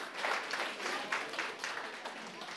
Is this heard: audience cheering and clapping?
yes